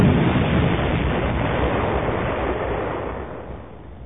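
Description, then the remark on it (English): Two blue missiles firing and striking a cylindrical tower: a loud, rushing explosive roar heavy with low rumble that holds steady, then gradually fades over about four seconds, with no voices. “When he hit the trigger, two blue missiles streaked out and hit dead on target.”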